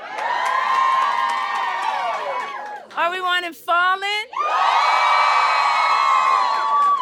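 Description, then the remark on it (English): A crowd erupts in loud, sustained screaming and cheering, breaks briefly while a single voice speaks over them, then roars back just as loudly and holds. “I actually had people scream for it.”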